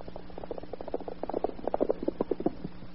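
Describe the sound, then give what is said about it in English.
A quick, steady patter of hoofbeats clops along a road, growing louder and denser as the horse draws closer; no one speaks. “I hear a horse coming down the road now.”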